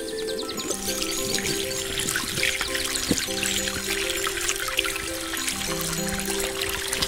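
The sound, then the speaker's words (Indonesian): Water pours steadily from a water tap in front of a house as a boy washes his hands with soap, a continuous splashing trickle for several seconds, with faint birds chirping in the background and no talking. “Ia mencuci tangannya dengan sabun di keran air di depan rumah.”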